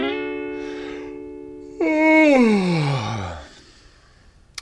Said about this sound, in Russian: Небольшой зевок.